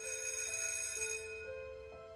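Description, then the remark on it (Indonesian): An electric school bell rings continuously with a bright metallic clatter, loud and sustained, its tone steady before fading slightly toward the end. No one speaks. “Bunyi lonceng sekolah gue pun memekakkan telinga dan membuat suara Raden tenggelam.”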